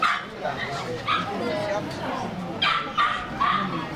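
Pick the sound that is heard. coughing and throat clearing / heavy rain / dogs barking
dogs barking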